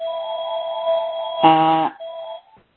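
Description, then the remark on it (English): A phone rings with a steady electronic tone that swells into a brief, louder buzzy chord midway, then settles back to a softer tone and stops. No one speaks. “Apologies, my phone is ringing in the background.”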